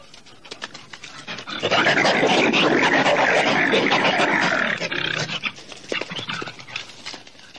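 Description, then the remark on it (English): A wolverine lets out a harsh, raspy roar, loud, lasting a few seconds before breaking into rough, snarling growls that taper off unevenly. “Part of that involves a roar like a chainsaw and a Harley Davidson revving up together.”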